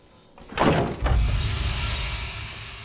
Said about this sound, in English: The door flies open, and two women walk out deep in conversation.